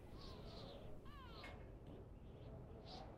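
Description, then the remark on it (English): A few harsh caws from black crows flapping about ring out over a dense, rumbling wash of noise, with a sharper, wavering call cutting through near the middle; no one speaks. “Black crows flapping about yellow bones in a swinging rusty cage.”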